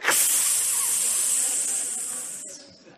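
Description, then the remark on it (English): A voice imitates a long, sustained hissing sound, bright and breathy, holding steady for about two and a half seconds before cutting off and trailing into a brief fainter hiss. “Now that hiss may not be in your Bibles, but I believe that that is there.”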